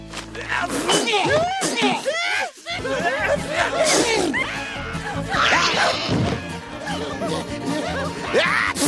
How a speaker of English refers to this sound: As usual, Johnny planted his ragweed all over town, and as usual, the townspeople started sneezing.